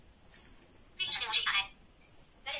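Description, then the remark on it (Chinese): A thin, tinny automated voice from a phone speaker plays a short prompt, a brief phrase followed by another starting after a pause, fairly quiet and narrow-sounding. “你看他那个一说的话这个语音提示没事啊。”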